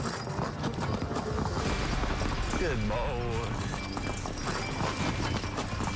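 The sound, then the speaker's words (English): Hooves of horses hitched to a truck and pulling it clip-clop in a steady, busy rhythm against a dense, continuous background, while a man speaks briefly over the hoofbeats. “We got the horses, hitch them up on that bad boy, and we're going to try pulling a truck with it.”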